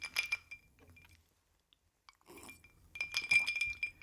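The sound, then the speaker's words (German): Bright glassy clinks ring out in two bursts, a quick cluster at the start and another after a pause, from a glass of whisky held by a man sitting in an armchair in a living room. “Im Wohnzimmer sitzt ein Mann im Sessel, in seiner Hand ein Glas Whisky.”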